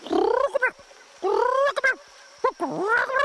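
Parrot-like chattering in three loud bursts of rising, warbling squawks with quick clicking chirps between, apparently a human voice imitating the chattering of Chikatika the parrot.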